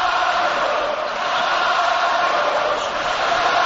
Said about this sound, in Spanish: Ahora Navarro, Navarro, Navarro, grita el público.